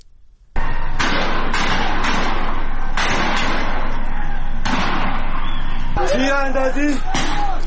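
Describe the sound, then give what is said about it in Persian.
Gunshots crack out repeatedly at irregular intervals over a loud, continuous crowd roar during an anti-government street protest in Borujerd, Iran, on 23 Ordibehesht 1401, with people shouting near the end. “تیراندازی دارن، تیر میزنن.”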